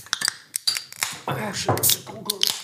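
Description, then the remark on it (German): A well-chilled beer bottle being opened, with a few sharp glassy clicks and clinks of the cap, followed by a voice and some clattering. “Zuerst mal öffnen wir ein gut gekühltes Bier.”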